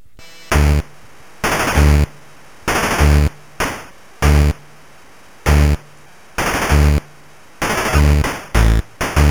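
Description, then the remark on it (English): A TurboGrafx video game music tune, Mission Briefing from the game Falcon, an original composition for the TurboGrafx: loud, harsh noise-burst drum hits in a choppy, syncopated rhythm over buzzy low bass tones, with no voices. “This is at least an original composition for the TurboGrafx.”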